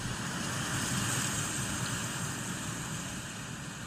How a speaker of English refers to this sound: The sound of the wind.